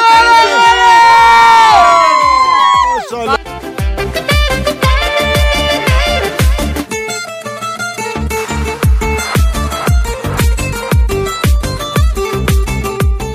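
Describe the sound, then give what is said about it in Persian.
Children shout and cheer loudly together for the first few seconds outdoors in the snow while sledding down a snow slope, then a steady, rhythmic pounding beat takes over, continuing loud to the end. “یه جایی اومدیم با بچه ها دارن سرسره بازی میکنن روی برف، دارن سرسره بازی میکنن، خیلی باسر بود.”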